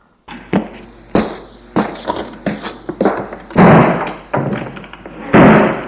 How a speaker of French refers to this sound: À partir de ce jour, la vieille entre en faisant claquer la porte fortement et sort de la même façon.